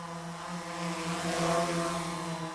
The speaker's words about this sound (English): Depending on the weather this year, I would figure noon is about the right time to check for the humming sound denoting that someone in your neighborhood is now a drone flyer.